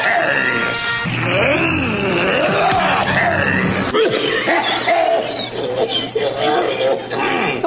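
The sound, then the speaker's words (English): A deep, warbling voice for the Gorn creature, built from a slowed-down cough like Jackie Gleason coughing, loud, groaning in a long phrase, then briefly cutting off before a second rumbling stretch. “Well, how about like Jackie Gleason that's coughing?”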